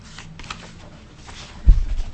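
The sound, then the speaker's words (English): Rustling and crinkling of paper sheets being shuffled through for a couple of seconds as someone searches for a particular piece of paper, ending with a soft low thump as the pages are handled. “And if you'll bear with me for a moment here, I know I have that piece of paper.”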